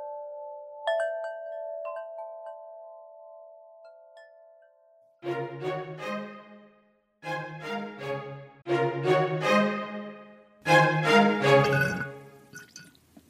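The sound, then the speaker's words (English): A soft ringing tone fades out, then four gurgling slurps through a straw follow in bursts of a second or two each, wet and bubbly, growing louder toward the end, as the last dregs of a daily greens drink from Equilibria are sucked up. “You hear that slurping, plant friends? That is me on my dregs of my daily dose of greens, courtesy of today's sponsor, Equilibria.”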